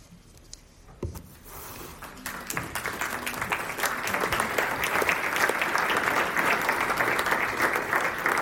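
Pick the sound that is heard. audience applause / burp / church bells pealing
audience applause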